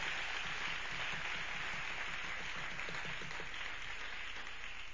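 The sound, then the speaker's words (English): An audience claps steadily as a clap offering to Jesus, a dense, sustained wash of many hands filling all five seconds at an even loudness, with faint rhythmic tones pulsing underneath. “Can we give a clap offering to Jesus?”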